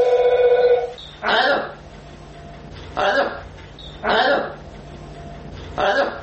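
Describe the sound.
A telephone rings briefly at the start, then a parrot answers with four rough, raspy, voice-like calls spaced a second or two apart, fairly close and loud.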